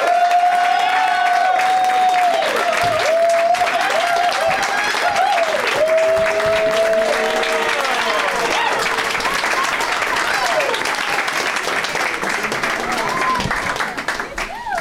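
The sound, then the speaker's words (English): A crowd bursts into loud, sustained applause with cheers and whoops welcoming three guests onto a program, steady dense clapping filling the whole stretch and tapering slightly at the end, with rising shouts and whistles over it. “Is that a real standing ovation?”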